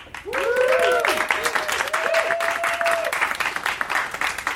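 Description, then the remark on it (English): An audience applauds loudly and steadily for several seconds to pick a favorite competitor, with whoops and cheers rising over the dense clapping before it thins out slightly toward the end. “So, pick a favorite with your applause, starting from”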